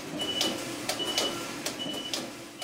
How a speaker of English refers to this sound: That alarm we hear is telling you that the knitting is ready.